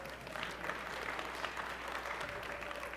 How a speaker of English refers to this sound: Just remember, your random, incredibly uncontrollable applause will only lengthen my speech. So you may want to contain that a little bit.